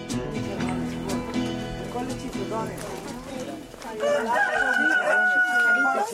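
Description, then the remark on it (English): Chickens cluck and a rooster crows at the spot where the birds eat, a dense chorus of fowl calls that grows louder in the second half, with people talking in the background. “This is where the birds eat, she says.”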